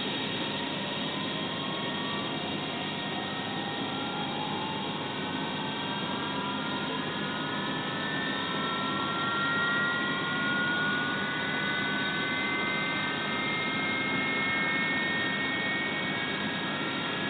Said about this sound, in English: We're using a 1011 tonight for our flight down to Orlando. So it should sound a little bit like this right here. Maybe not that much noise. There, that's a better noise level.